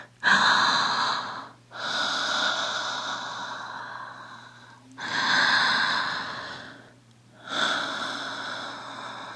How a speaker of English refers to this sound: But personally, I base a lot of my, let's say, performance on the breathing. The slow breathing.